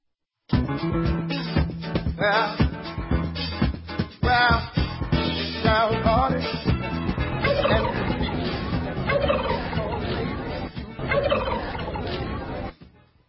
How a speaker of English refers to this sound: Alright, you gotta love those turkeys. Wow.